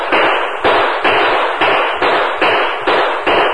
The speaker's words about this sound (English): He's going to use a Winchester. Get to the cover of those rocks. Doggone. We just got to cover in time. Those slugs are coming mighty close.